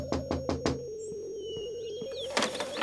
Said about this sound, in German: Vor deren Zimmer angekommen, klopft sie an die Fensterscheibe.